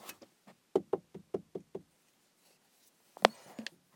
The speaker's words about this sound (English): You didn't hear me, did you? I knocked, but...